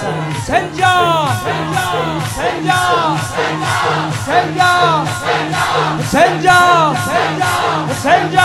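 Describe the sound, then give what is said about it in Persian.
A crowd of children chants "Hussein" together, the younger ones shouting along with a leader, in loud, rhythmic bursts, many high voices overlapping over a steady low pulsing beat that repeats throughout. “این بچه کوچیکترا، شما بزرگترا داد بزنید بگید حسین با نفس تو، همینطوری که الان میگید این کوچیکترا با من فریاد بزنن.”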